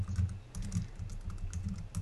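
Rapid typing on a computer keyboard, a steady stream of quick, close clicks and taps with a low thudding undertone, no voices.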